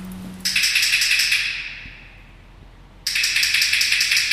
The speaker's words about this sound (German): Zuerst zieht der Philipp Spindler die Schieberklappe auf und zu, damit die Löwen hören, dass sie reinkommen sollen